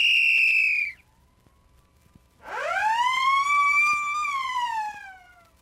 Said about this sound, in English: Then the little fat policeman gave them a look, raised his silver whistle to his mouth, and blew.